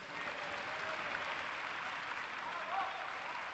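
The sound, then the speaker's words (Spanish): Sustained applause in the Spanish parliament as the vice president's speech ends, a steady dense wash of clapping hands from a large audience that holds evenly at moderate loudness throughout, with no voices standing out. “Y es que la intervención de la vicepresidenta terminaba, como hemos escuchado, entre aplausos.”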